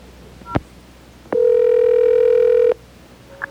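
A sharp click, then a steady electronic telephone tone holds for about a second and a half before cutting off, followed by a brief faint beep. No one speaks.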